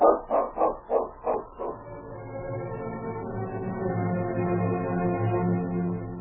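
A dog barks five times in a quick, even rhythm, fairly loud, then a steady droning tone carries on for several seconds with no more barking.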